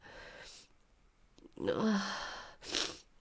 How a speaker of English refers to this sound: Oh, sorry for my sniffling.